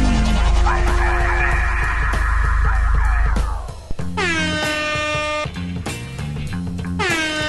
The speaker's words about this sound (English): This one, I had another app where it was an air horn app specifically, and if I hit the button over and over, it would go, mur, mur, mur, mur, mur, mur, or let me do that. But this one, if you hit it, and then hit it again, it just shuts it off.